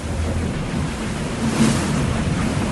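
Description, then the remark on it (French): Heavy, continuous roar of rough sea at Cape Horn, with 45-knot gusting wind buffeting the microphone and 8-metre swells; surging wave wash swells midway through; loud, no voices. “Dans une mer démonté avec 45 nœuds de vent et 8 mètres de creux.”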